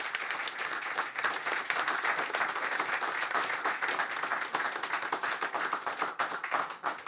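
Sustained applause from an audience fills the whole stretch, a dense, steady clatter of many hands clapping at once with no break and no voices rising above it.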